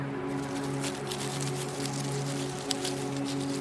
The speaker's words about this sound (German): Es klingt, als wäre ein größeres Tier im Gebüsch unterwegs.